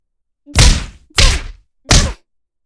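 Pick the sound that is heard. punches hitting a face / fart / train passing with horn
punches hitting a face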